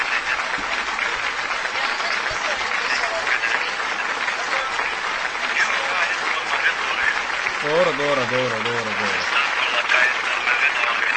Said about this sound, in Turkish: Evet, alkışlıyorlar bu arada sevgili dinleyiciler.